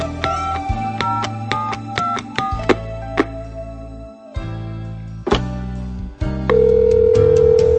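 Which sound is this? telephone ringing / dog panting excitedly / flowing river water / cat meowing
telephone ringing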